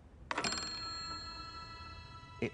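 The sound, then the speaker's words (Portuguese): A bell on the receiver of Lodge's wireless system, set off with no connection between sender and receiver during a demonstration before an audience, is struck once and its bright, metallic tone rings on, slowly fading for about two seconds, before a second strike sounds at the very end. No voices are heard. “Vamos imaginar a casa cheia, com muitas pessoas na plateia, e de repente elas vêm como num passe de mágica, uma campainha tocando.”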